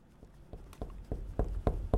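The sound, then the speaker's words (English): Someone knocks on a door, about eight dull, bassy thumps at a steady, unhurried pace, growing a bit louder toward the end, with no voices. “Oh, when somebody surprises you, when they bang on the door really loud?”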